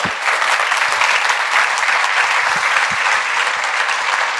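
Loud, sustained audience applause for a guest fills the whole stretch, a dense steady wash of many hands clapping with no pauses.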